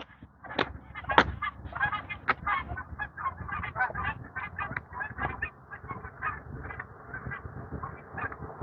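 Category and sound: bird, geese honking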